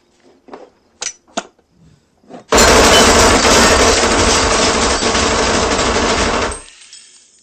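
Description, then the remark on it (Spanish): A few sharp mechanical clicks, then a loud, unbroken burst of rapid automatic fire from a micro Uzi submachine gun that rattles on for about four seconds before cutting off abruptly. “Esta es la micro-UCI SMG. Soma Chigun. Una máquina de matar.”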